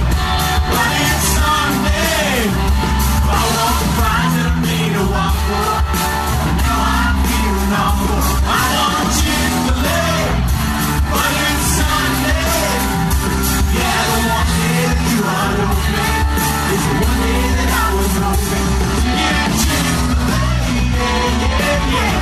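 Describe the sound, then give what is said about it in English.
A loud live concert roars on without a break, a band playing under a dense wall of voices from a crowd of thousands yelling, whooping and singing along to the band's songs all the way through. “And the crowd knows our songs. It's crazy. There's like thousands of people.”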